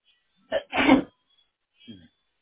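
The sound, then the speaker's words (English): A single loud sneeze: a quick sharp intake bursting into a forceful, breathy blast, then a brief murmured voice a moment later against an otherwise quiet background. “Bless you.”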